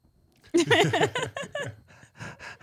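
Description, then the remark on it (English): A person imitates a woman's excited panting at a cute one-year-old child: a quick run of loud, breathy, half-voiced huffs in uneven bursts, then a brief pause and a few softer pants. “No, she's, yeah, she drooled panting.”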